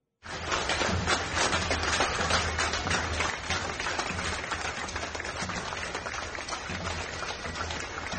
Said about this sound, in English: Well, applause there. There were plenty of cheers and handshakes Friday for NYPD Deputy Commissioner John Miller on his last day with the NYPD.